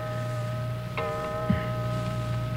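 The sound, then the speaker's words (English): A clock strikes midnight, 12 o'clock, on Christmas Day. It chimes once, its bright, bell-like tone ringing on and slowly sustaining over a steady low hum, with a soft thump shortly after. “What's that clock striking? It's 12 o'clock.”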